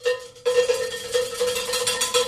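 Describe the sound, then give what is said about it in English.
A 'good point' bell sound effect rings out with a steady metallic tone, then a sharper strike adds a bright, shimmering ring that sustains loudly until the end, with no voices. “What's that? The good point, bell.”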